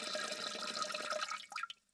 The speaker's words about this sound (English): Here are some examples of what relief might actually sound like. Doing a PP, or the Latin word is micturition.